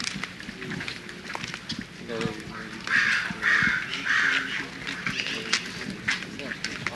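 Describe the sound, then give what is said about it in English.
Crows caw at a zoo in a quick run of three harsh calls near the middle, loud, over a busy background of murmuring voices and outdoor noise. “We have the crows here.”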